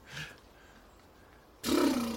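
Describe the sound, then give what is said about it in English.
A brief soft rasp opens, then a lull before a loud horse sound bursts in, harsh and breathy with a low tonal buzz, sustained to the end. No one speaks. “So, the horse sound.”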